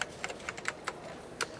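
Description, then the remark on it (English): Quick, irregular clicks of keys being pressed on a computer keyboard by children learning to use a computer at school, fairly quiet, with a short pause before a final couple of taps. No voices. “They are using a keyboard and looking at the screen.”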